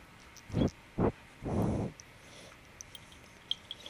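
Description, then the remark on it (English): A cat breathes through a stuffy nose, making three rough, snuffly breaths: two short puffs and then a longer wheezy one. Quiet follows, with only faint ticks. “You can hear his nose. He has a little bit of a stuffy nose.”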